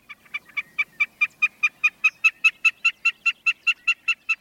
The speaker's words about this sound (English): Snipes also sing from the ground.